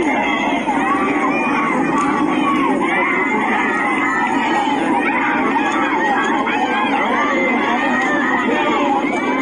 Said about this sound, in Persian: مردم معترض شهر دشتی روز و شامگاه دوشنبه پس از چهلم حامد مولایی آتش افروخته و شعار سر دادند.